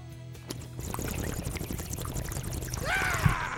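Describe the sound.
Someone imitates the bubbling gurgle of a bong, a steady wet burbling for a few seconds that ends in a short rising squeak, with no words spoken.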